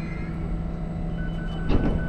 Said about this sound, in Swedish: Och nu kommer tåget in på stationen. Får vi se hur det går till nu då? Hur vet ni hur ni ska komma in? När jag hör att tåget har stannat och dörrarna öppnar sig så säger jag åt Flinga att söka in. Och då kan hon hitta dörrar.